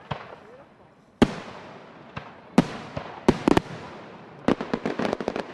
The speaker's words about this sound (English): Now, big pyrotechnic displays, like this one Tuesday night in Kansas City, will go on as planned, with fireworks bought months ago.